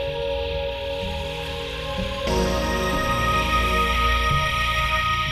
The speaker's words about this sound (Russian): А на улицах безраздельно царил дождь.